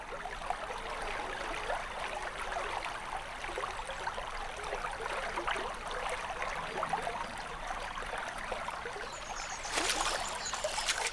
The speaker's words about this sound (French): C'est la rivière. On entend l'eau qui coule. Ça fait splash, splash, splash quand on marche dedans.